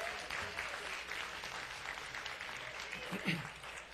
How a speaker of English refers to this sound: Come on, clap your hands, all you people.